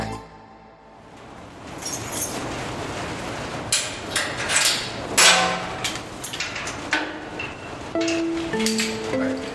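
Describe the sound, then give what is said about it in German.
A carabiner clips and clanks against a steel ladder inside a wind turbine tower, hooked on for a secured climb to the turbine platform: a series of sharp, irregular metallic knocks over a low rumble, ending in a few bright, ringing metal tones. “im Inneren des Turms den Karabiner auf der Stahlleiter einhakt, um gut gesichert zur Windradplattform klettern zu können.”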